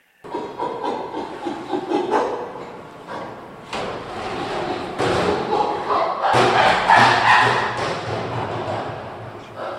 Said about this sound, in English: Back at the sanctuary, a 35-year-old male named Burrito is banging on an empty steel drum. So that's Burrito displaying a little bit, pushing that barrel around.